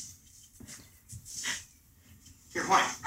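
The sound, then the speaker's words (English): A dog gives a few short, soft barks and a brief high whimper, spaced across a quiet stretch, with the loudest yelp coming near the end. “It's a dog.”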